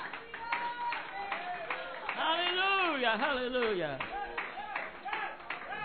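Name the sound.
audience hand clapping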